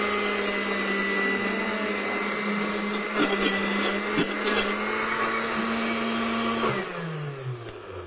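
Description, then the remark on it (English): A blender on its puree setting, with its top open and covered by a hand, blends a sauce with added water, whirring loudly and steadily for several seconds, its motor pitch holding level before dropping and winding down near the end; no talking over it. “We're ready to blend. I've got my water here. You're going to put it on puree.”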